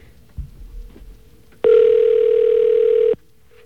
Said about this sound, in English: It should go right... should be ringing him somewhere, wherever he is in the city.